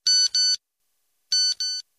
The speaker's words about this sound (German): Nokia-Handy. Ja. Das ist ja, der Standard-SMS-Sound, den früher jeder hat.